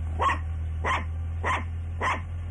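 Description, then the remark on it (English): A dog named Cleopatra barks four times in a steady, evenly spaced rhythm, each bark short and moderately loud, over a constant low hum in the background. “It's not nice to bark at people.”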